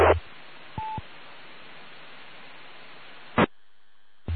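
A single brief touch-tone beep sounds over steady telephone line hiss as someone dials into a telephone check-in line, framed by sharp clicks at the start and near the end, after which the line drops to quiet with a faint hum.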